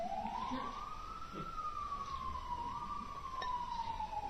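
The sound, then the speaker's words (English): A fire engine siren wails steadily, its pitch rising and then slowly falling as it passes through New York city streets, with a low hum of traffic underneath. “Just nothing specific, just fire engine or something.”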